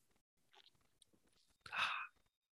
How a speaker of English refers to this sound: This is by New Belgium, wonderful brewery. And they don't have nothing really fun to read about it. You know, I like to read that fun stuff. 5% alcohol by volume. So this is a sippa. This is a sippa, they like to say. Going in for the sip.